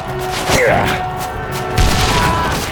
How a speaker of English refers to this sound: The explosion lit the gray sky for an instant.